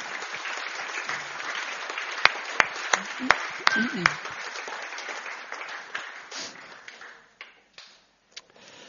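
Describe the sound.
An audience applauds the performers once more in a dense, steady wash of clapping with a few sharp individual claps poking out, then the applause thins and fades toward the end. Faint voices can be heard beneath it.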